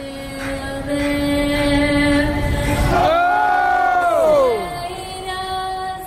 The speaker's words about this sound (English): In many ways, sitting in the stands, taking in a game, it's all so familiar, so comfortably the same as it ever was. We yell, "Oh!" during the national anthem, as is the wont of us O's fans.